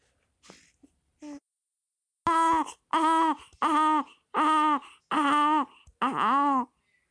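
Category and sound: human body sound, baby crying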